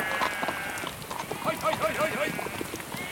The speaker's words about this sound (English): It's pouring with rain and the two gigs have to slow right down on a country road for a farmer and his sheep.